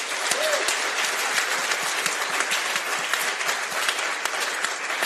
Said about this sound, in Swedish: Ge en varm applåd till Jonathan Unge.